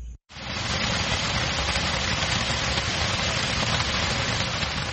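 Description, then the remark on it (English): A heavy, steady downpour in northern Cameroon on a Monday roars continuously, a dense hiss of rain drumming on surfaces after a brief cut of silence at the start. No voices are heard. “Government officials and the military braved a heavy downpour in northern Cameroon Monday to visit the commercial town of Pakete on the border with Nigeria.”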